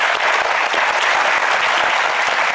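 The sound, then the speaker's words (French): Steady, loud applause from an audience, a dense wash of many hands clapping without pause for the whole stretch, with no voices standing out. “Merci, beaucoup d'applaudissements pour vous.”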